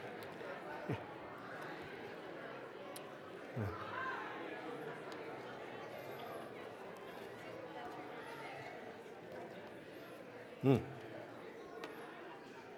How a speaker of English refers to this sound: That's a good sound. That's really a healthy sound of relational interaction with people.